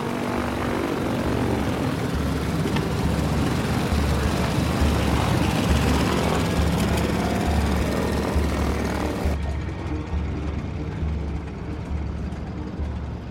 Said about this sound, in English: She puts on her headphones and eases the throttle forwards. The plane starts to roll.